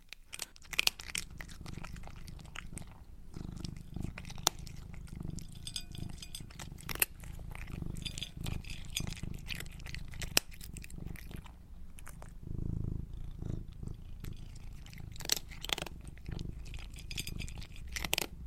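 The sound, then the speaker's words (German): A cat crunches dry kibble, sharp irregular bites and chewing clicks repeating throughout, over a steady low rumbling purr with no one speaking. “Eine Katze, die so Trockenfutter frisst.”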